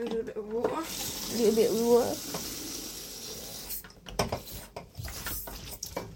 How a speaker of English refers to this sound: So, I'm going to grab the Lucozade bottle. And we're going to fill it up with water.